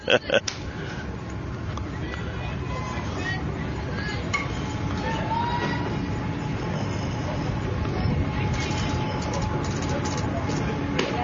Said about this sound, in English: And there's our train.